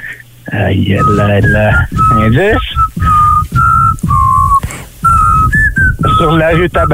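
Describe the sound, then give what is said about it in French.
A children's TV show theme tune is whistled in short, wavering phrases, fairly loud, while other people talk and laugh over much of it. “on essayait de te siffler Passe-Partout”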